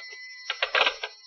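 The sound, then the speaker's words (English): A telephone bell rings in an apartment in a quick, rattling burst of metallic strikes, fairly clear and alone against a faint steady hum, lasting about a second before cutting off. “I hadn't been in the apartment 10 minutes, 9 to be exact, when the phone rang.”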